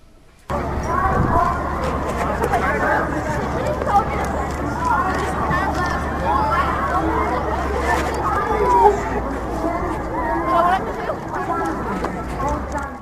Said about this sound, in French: Le troisième son est celui de Times Square.